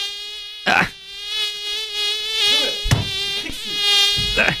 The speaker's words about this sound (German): Bei Mücken, da verstehen einige echt keinen Spaß. Ich auch nicht. Die sind extrem nervig. Gerade wenn du einschlafen willst und dann summt diese Mücke durch den Raum.